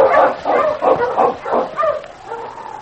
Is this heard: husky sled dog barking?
yes